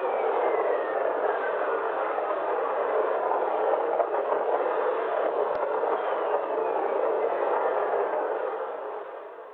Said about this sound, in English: I'm going to play right now signals that were recorded from my instrument on that early spacecraft. Okay, I'll play them now. We're going over a thunderstorm here, and each of these whistling sound is produced by a lightning, a bolt of lightning.